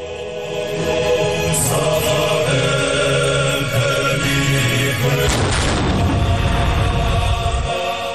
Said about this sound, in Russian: Там нет царского дворца, как в Телави, где вступление в полномочия пятого президента Зурабишвили отметили даже пушечными залпами.